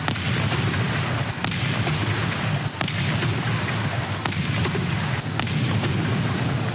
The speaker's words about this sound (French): Une prestation marquée par 21 coups de canon.